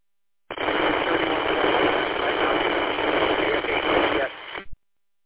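A loud, sustained burst of radio static hisses for about four seconds, briefly dipping and flaring again near the end before cutting off abruptly. No voices are heard. The static bursts on a radio net confirm that car zero started the stage at 1525.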